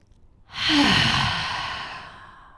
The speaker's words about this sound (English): Okay, so you got to breathe in through your nose and imagine you're breathing all the way to your asshole.